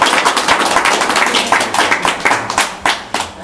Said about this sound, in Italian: Anche perché ho vi presento Gloria. Un applauso, piacere. Piacere, signorina.